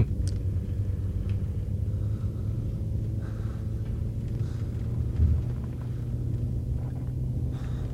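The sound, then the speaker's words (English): A steady, muffled low rumble of traffic heard through closed windows, with no clear individual pass-bys standing out. It continues evenly for the whole stretch, with no talking. “Yeah, we're gonna listen to the cars to come, even now. Though the windows are closed.”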